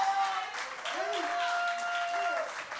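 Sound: audience clapping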